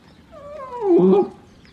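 A single drawn-out bark from Fido, a dog on a lead barking at a cat, whiny and tonal, swells to a loud peak near the middle and then fades, with no talking.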